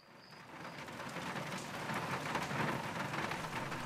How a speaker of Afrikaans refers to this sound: Oh, hoor hoe stortreen dit.